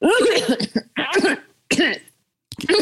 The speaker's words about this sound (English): Okay. I'll cough. Oh, now he thinks we're all sick. Here, I'm gonna turn around. I'm gonna make it natural. I'm gonna turn on the cough.